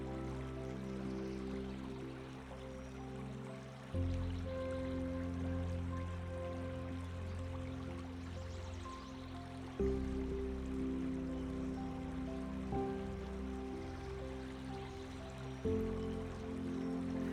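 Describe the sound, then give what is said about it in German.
A brook flows steadily and gently under sustained, droning ambient tones that shift chords every few seconds. The water sound is continuous and soft, and no one speaks. “Das stetige Fließen des Baches beruhigt dich und du kannst alle Sorgen und Anspannungen vom fließenden Wasser davontragen lassen.”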